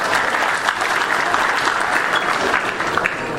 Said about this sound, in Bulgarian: Аплодисменти и за него.